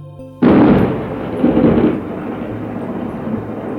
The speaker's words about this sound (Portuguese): Subitamente, o horizonte mudou. O azul deu lugar a um cinza escuro e um trovão rugiu como uma fera.